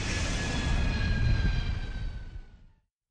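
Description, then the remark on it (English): A loud jet engine roars steadily with a high whine layered over a deep rumble, then cuts off abruptly after a few seconds, as if a plane is taking off. “Another 5 minutes, our plane would have left without us.”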